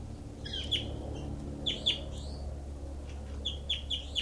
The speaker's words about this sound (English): Recording is bird 06.